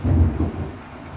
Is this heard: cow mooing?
no